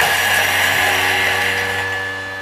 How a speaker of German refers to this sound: Halt mal ganz kurz den Gedanken an, weil ich muss hier einmal den Thermomix anmachen. Ja. Sekunde. Und dann kannst du weiter erzählen. Ganz kleinen Moment. 3 Sekunden, Stufe 8. Okay. Wird kurz laut.